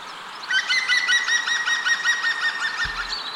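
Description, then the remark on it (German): A green woodpecker calls, a loud, ringing run of rapid repeated notes that keeps going steadily for several seconds, with no voices around it. “Mach mal Grünspecht, weil ich wüsste nicht, was der für Geräusche macht, außer tok, tok, tok, tok.”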